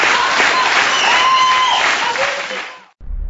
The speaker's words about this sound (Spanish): aplauso.